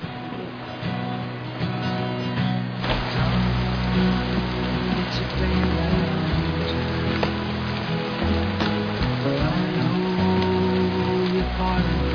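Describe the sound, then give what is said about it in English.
Steady rain falls throughout, a dense, continuous patter at moderate volume, with a low droning tone running underneath and no clear voices. “Listen, good luck in the rain.”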